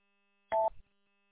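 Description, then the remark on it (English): A single short radio confidence beep, one of a periodic series heard roughly every 5 seconds during a radio transmission: a steady mid-pitched two-tone chirp lasting a fraction of a second, followed by a brief burst of static before a faint background hum resumes. No voices. “Hey, are you hearing, like, a little series of periodic beeps when you're listening to my transmission?”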